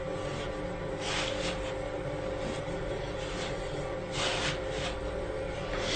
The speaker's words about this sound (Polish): Mieszamy z niewielką ilością mąki w środku, żeby powstało najpierw trochę rzadsze ciasto. Dodajemy resztę wody z drożdżami i zagniatamy już z całością mąki.